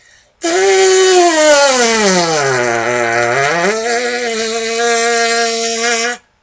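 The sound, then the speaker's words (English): A sustained, raspy brass lip buzz with no mouthpiece, steady and loud for about six seconds, sliding down to a low growl before climbing back up to a higher pitch. “It's much more difficult to go from low to high, especially if you're doing just the buzz and no mouthpiece.”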